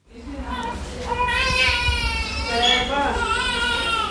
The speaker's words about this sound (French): Entre les pleurs des bébés et les discussions à voix basse des jeunes mères, l'atmosphère est feutrée dans le service Mère Kangourou. 16 femmes et leurs bébés sont actuellement logés, encadrés et soignés dans cette unité.